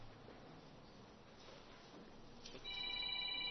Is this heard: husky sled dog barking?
no